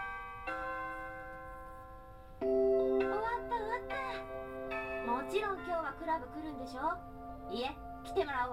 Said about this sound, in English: The final bell rings